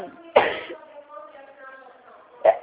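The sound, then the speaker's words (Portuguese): Two abrupt, forceful sneezes about two seconds apart during a phone call, the first louder and more drawn out, with a faint murmuring voice lingering between them. “Desculpa, você está espirrando, estou Não, não com tem problema alergia.”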